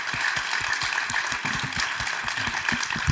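Steady audience applause for a young man who appeared on the big stage, with dense, rapid overlapping claps at an even loudness throughout, no voices standing out above it.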